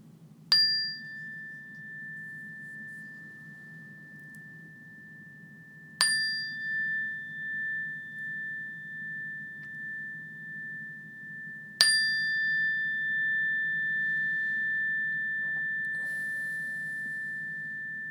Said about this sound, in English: And in a few moments, when I ring this bell again, notice the bell until you can't hear it any longer, or until it's no longer there.